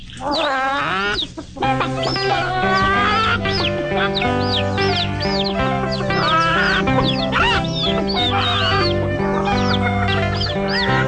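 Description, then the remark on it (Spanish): A bouncy children's song about a chick and a grain of corn plays loud, steady bass and bright melody with repeated chirpy, peeping chick-like sounds sprinkled throughout after a brief pause near the start. “Vamos a escuchar antes la canción de Granito y Pollito”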